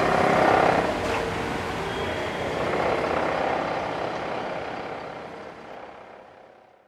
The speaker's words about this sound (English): All right, obviously I've drifted away from the nice shore to construction on one side, cars on the other, so let me turn this fucking bitch off.